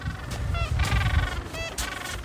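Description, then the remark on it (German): A penguin colony living on an island calling: several overlapping nasal, honking brays rise and fall over a steady low rumble, loud, with no talking. “Das war die Pinguinkacke, die da überall rumgelegen ist, weil wir eben eine Pinguinkolonie besucht haben, die dort auf der Insel gelebt hat. Das riecht man auch ziemlich stark und man hört es aber auch.”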